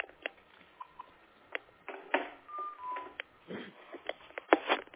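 A few brief electronic telephone dialing tones sound amid scattered clicks and handling noise, muffled, with no one speaking.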